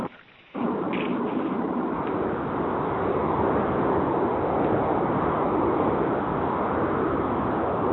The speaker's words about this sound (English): Also, if someone is on the call from a car, we're getting a lot of noise over the phone. It would help us out if you muted. Yeah. You don't like the sound of I-95?